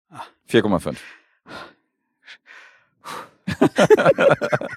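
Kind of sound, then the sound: human body sound, exhaling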